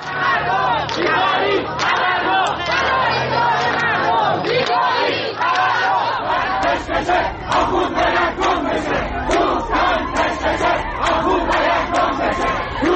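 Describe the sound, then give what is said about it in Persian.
A large street crowd in Isfahan, Iran, demonstrating on Tuesday in protest at living conditions, chants and shouts together in loud, continuous waves, with rhythmic bursts of raised voices and a low rumble underneath that fades partway through. “روز سه‌شنبه گروهی از مردم اصفهان نیز در اعتراض به وضعیت معیشتی در خیابان تظاهرات اعتراضی برگزار کردند.”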